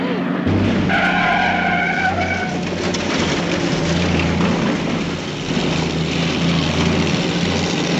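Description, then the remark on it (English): Car tires screech loudly for about two seconds as the vehicle skids to a stop, over a heavy, steady engine rumble and road noise that continue after the squeal fades. “You stop the car.”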